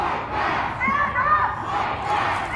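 A large crowd of protesters at the Salt Lake County DA's office, upset about the Bernardo Palacios Carbajal ruling, chants in the street that they will stand up and fight back, a loud, steady wall of many voices with a few rising calls cutting through, continuing without pause.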